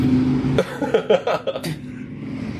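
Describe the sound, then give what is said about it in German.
A motorcycle with a broken exhaust idles with a low drone, then revs in a rough, sputtering burst of loud, ragged pops before settling back to a steady rumble. “Das war, glaube ich, ein Motorrad, ne? Ja. Kaputtem Auspuff.”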